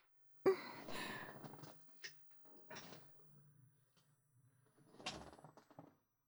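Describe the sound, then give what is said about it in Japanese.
A salon chair is raised upright: a sharp clunk starts it, followed by several seconds of mechanical creaking and rattling, with a second brief clack near the end. “それでは椅子を起こしますね。”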